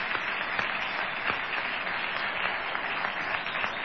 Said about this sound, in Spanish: Bueno, estamos aquí en el Multiteatro de Corrientes 1283 con gente amiga que va a saludar ahora con una ovación a Patricio Barton.